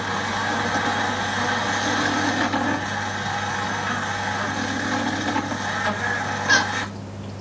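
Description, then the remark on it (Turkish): A continuous low, droning buzz of honeybees making a dance call, steady and even throughout with a brief swell near the end, and no talking. “Bakın bu ses. Bu sesle çağrıda bulunuyorlar maşallah.”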